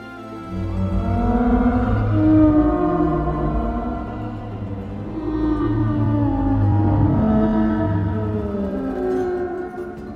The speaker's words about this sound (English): The song of the humpback whale consists of a series of high-frequency sounds.